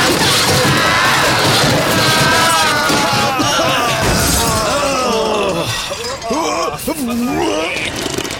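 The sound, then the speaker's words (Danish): Loud, continuous crashing and shattering of glass and metal, a chaotic wreck of smashing vehicles in a parking lot, where four cars and a Citroën are being smashed, with excited voices shouting over the din. “Efter at have ramt et par cigøjnerkvinder på vejen, fortsatte hjulet med hår og støv virvlende omkring sig ud på parkeringspladsen, hvor 4 biler og en Citroën bliver smadret,”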